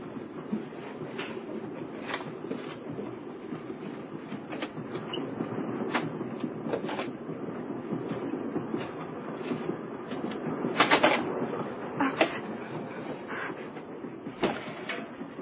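A moving train rumbles steadily, with sharp metallic clicks and clacks from the rails breaking through at irregular intervals; fairly loud, with no voices.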